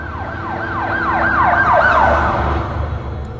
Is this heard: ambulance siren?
yes